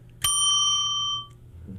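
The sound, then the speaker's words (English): A single bright bell sound effect, played during a WRT pledge drive when someone donates, rings out sharply and then sustains, its clear metallic tone fading gradually over about a second, with faint background noise around it. “Is that one or the bell?”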